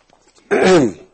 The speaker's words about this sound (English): I'm just going to take a quick sip here. Clear my throat, sorry.